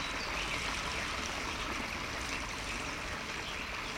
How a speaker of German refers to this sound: Bevor du die Augen in Gedanken wieder öffnest, kannst du das Wasser schon riechen? Das frische, klare Wasser, was munter an dir vorbeiplätschert. Und nun kannst du es auch sehen. Ein lebendiger, sprudelnder Bach, schmal und verschlungen.